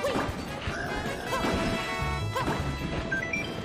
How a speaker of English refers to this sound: This can be heard in Super Mario 3D World, where repeatedly hitting Bowser's broken car has a small chance of playing a randomly chosen sound effect from Super Mario World.